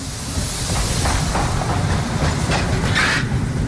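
A coal-fired steam locomotive, a 65-year-old OL49 from the early 1950s, pulls a special regional train from Toruń Główny station along the rails: a steady low roar with faint rhythmic clacks and a breathy hiss rising over it, no voices.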